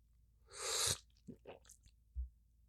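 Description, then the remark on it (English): An airy slurp as someone sips hot red fruity tea, followed by a few soft swallowing clicks and a dull thud, like a cup being set down. No one speaks. “I wanted to sip this tea, but I think it's too hot and it's going to burn me.”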